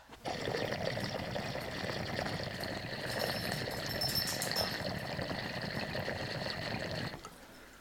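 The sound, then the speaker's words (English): Water pours steadily onto a hard concrete floor for several seconds, a continuous splashing rush that holds at an even level, then cuts off abruptly near the end. “We're gonna just pour some of that on the concrete floor.”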